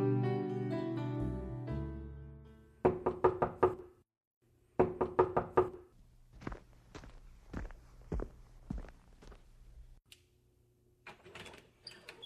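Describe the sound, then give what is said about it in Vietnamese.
After a fading musical tone, two quick bursts of firm knocking rap on a house door, followed by slower, evenly spaced thuds and a few more knocks, clear with no talking. “Chị là người cuối cùng mà tôi không mong đợi chị gõ cửa nhà tôi đấy.”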